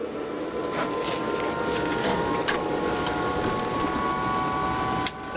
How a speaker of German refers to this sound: Während die Geräusche des Hubschraubers so laut sind, dass ein Gespräch kaum möglich ist, sehen wir beim Blick aus dem Fenster eine Märchenlandschaft.